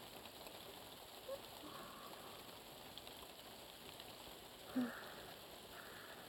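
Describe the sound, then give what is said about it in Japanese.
Steady heavy rain beats on a roof in a continuous, fairly soft wash of hiss, with an occasional brief louder drip or tap standing out from the even downpour. “やっぱり雨降ってきましたね。ザーザーって屋根を叩いているのが聞こえます。”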